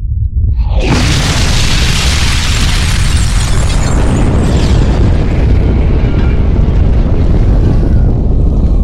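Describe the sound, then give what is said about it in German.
A warhead detonates in a massive explosion 7 kilometres above a city after a brief quiet moment, a deep roaring blast that floods everything and keeps rumbling and surging loudly for several seconds like a powerful wind. “Der erste Sprengkopf ist detoniert. 7 Kilometer über der Stadt.”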